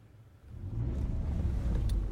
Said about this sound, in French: Aujourd'hui, 4e épisode, on se gare dans la cour.